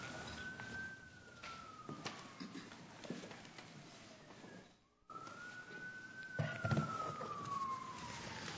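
An emergency vehicle siren wails outside a courtroom during a court hearing, its tone sweeping slowly up and down twice over steady background noise, with no one speaking.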